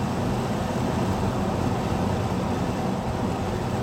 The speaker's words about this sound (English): Got a car coming up behind me about 300 metres.